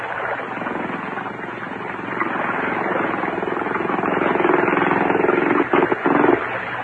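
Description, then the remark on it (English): The engine of a motorboat tender drones steadily, a low chugging rumble with a buzzy edge that swells a little louder as it comes in, then briefly sputters near the end. No one speaks. “Oh, here comes the tender.”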